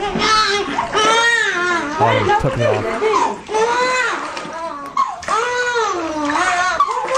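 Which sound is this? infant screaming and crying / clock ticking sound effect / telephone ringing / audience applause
infant screaming and crying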